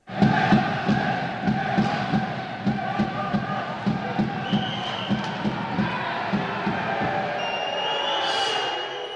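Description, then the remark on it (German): A large crowd at an ice hockey game in the St. Jakob Arena in Basel roars and chants in a steady, rhythmic pulse, with dense layered voices filling the reverberant arena; a high whistle or horn tone rises briefly near the end. “Unsere 2. Station im St. Jakob führt uns jetzt aufs Eis in die St. Jakob Arena.”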